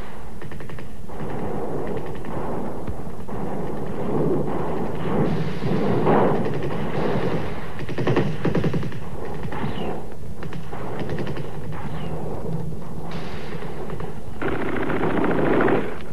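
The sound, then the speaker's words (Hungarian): Sustained gunfire with rapid machine gun bursts as insurgents attack a party building, loud and dense, the rattling volleys overlapping almost continuously throughout with brief lulls and no voices. “A lövöldözés hirtelen elhallgatott.”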